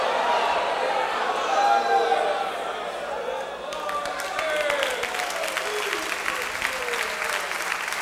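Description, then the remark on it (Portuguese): An audience applauds loudly and steadily, dense overlapping claps that grow sharper and more distinct about halfway through, with raised voices mixed into the crowd noise at the start. “Aleluia, você pode aplaudi-lo com vigor.”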